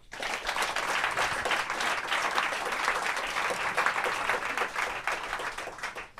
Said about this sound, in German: Jetzt erstmal einen herzlichen Applaus für unseren ersten Gast, Dr. Marc Benecke.